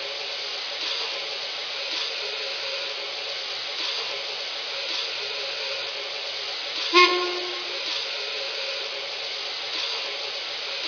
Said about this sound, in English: We've got a heavy train today. Yeah, I can hear her talking.